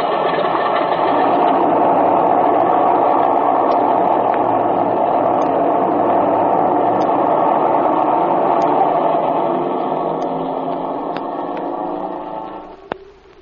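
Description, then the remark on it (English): An airplane engine idles on a lonely field with a steady, rattling drone that stays loud for several seconds, then winds down and fades near the end. No one speaks. “Just cut that engine of yours.”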